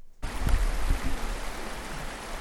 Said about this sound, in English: so I'm here at the Blue River today, and I've been fishing kind of these holes in the catch and release, and what I'm seeing is that the water seems to be a little warm and definitely about a foot low.